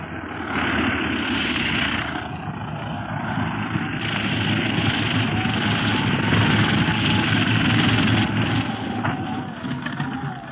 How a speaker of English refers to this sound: The plane is landing. We'd better step back.